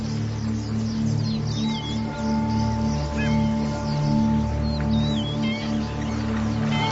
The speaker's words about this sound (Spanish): Imagen de una invasión de aves en el cielo. Sonidos.